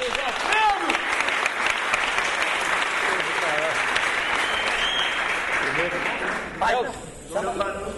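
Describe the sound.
A loud, sustained round of applause from a crowd, dense clapping mixed with cheers and voices throughout, dipping briefly near the end before swelling again.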